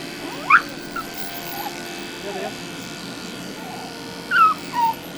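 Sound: dog whimpering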